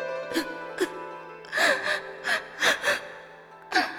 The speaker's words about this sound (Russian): Чего ты плачешь, любимая?